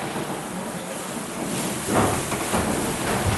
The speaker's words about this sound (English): And that is this engine's job. Water. It pumps water. 1 tonne per stroke. 1,260 litres. 12 strokes, 12 tonnes per minute.